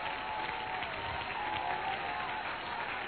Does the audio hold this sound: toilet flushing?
no